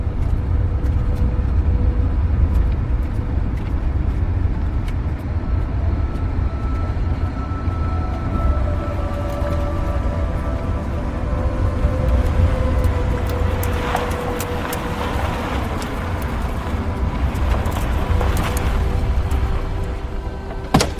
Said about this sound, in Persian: حاتف و راننده سوار ماشین توی جادن. ماشین بهرام کنار جاده چپ کرده. راننده ماشین رو متوقف میکنه.